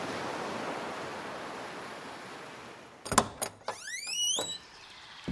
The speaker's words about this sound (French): Et tu vois un océan aux vagues bleues et vertes qui déferlent sur une plage de galets.